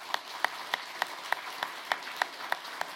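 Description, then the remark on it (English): An audience applauding for Preston Kelso, who spearheaded an accreditation effort through the Association of Reformed Theological Schools, with a steady wash of clapping and sharper claps landing in an even rhythm about three times a second. Moderately loud, with no voices. “In fact, can we clap for Preston Kelso?”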